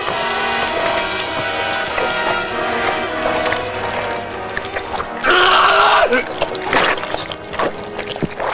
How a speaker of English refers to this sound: Sinking quickly, the muddy water covers his shoulders, lapping against his gaping mouth. Gasping for air, the sucking waters pull him down.